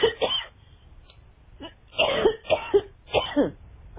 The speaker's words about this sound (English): I beg your pardon, I'm coughing now.